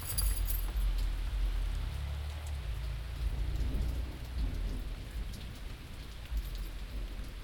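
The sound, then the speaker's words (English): Steady rain falling in Canada and pattering on surfaces, a continuous hiss with dense droplet ticks and a low rumble underneath, with no voices present. “It sounds like Vancouver, but it isn't, Steve. It's not the wet coast.”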